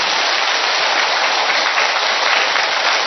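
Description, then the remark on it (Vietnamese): A large church audience claps together in a loud, dense, continuous burst of applause that holds steady for a few seconds, with no voices standing out. “Tập vỗ một tràng pháo tay cho như anh chị em ấy lên tinh thần đi.”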